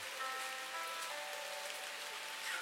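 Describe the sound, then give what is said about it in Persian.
Steady rain pattering on a surface, a dense continuous hiss of drops with faint tonal hum beneath, even in loudness throughout and with no voices. “کاش کی یکی دل منو برده بود میون این قطره‌های بارون تو این هوا دنبالش میگشتم.”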